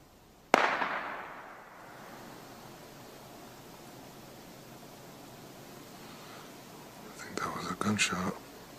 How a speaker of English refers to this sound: Somebody just shot over into the woods.